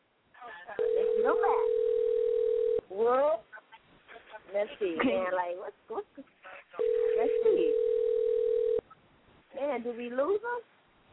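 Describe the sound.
A phone line rings out twice, each a steady two-second mid-pitched ringback tone, with voices talking over and between the rings, as an interview guest's number is dialed to get him back on air.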